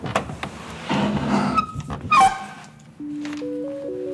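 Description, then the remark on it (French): A house door opens with a short squeaky creak amid bumps and shuffling as people come inside into a gallery, then a few steady, gentle musical tones begin at the end. “Une fois la porte franchie, une galerie cossue vous accueille.”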